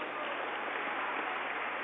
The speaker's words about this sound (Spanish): Y un aplauso al Minuto de Dios, al padre Diego.